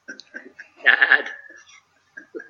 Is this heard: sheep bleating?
yes